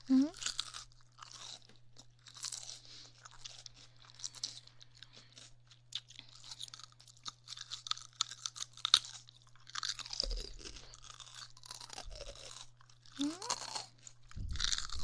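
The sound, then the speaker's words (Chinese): Crisp crunching of someone chewing fresh cucumber, with repeated wet bites and chews in an uneven rhythm, plus a steady low hum underneath and a brief voice near the end. “黄瓜很清脆的， 很好吃的。”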